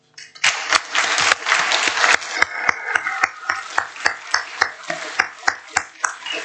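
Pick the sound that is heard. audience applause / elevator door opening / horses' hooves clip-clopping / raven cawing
audience applause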